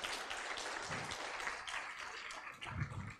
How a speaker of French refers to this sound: Je vois que tout le monde n'applaudit pas.